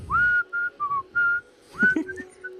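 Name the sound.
person whistling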